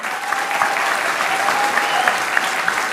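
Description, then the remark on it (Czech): Steady applause from a sizable audience in support of the radio, a dense wash of many hands clapping at once, sustained and fairly loud throughout with no voices standing out. “Děkujeme za tu podporu a tím mám na mysli nejenom tenhle potlesk, ale vůbec vaší podporu, kterou my v rozhlase cítíme.”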